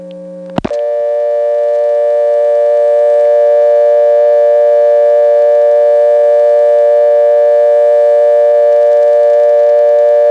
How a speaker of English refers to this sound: In fact, even on the dial tone, there is a buzz. You may not hear it, but after I dial a 2, you will.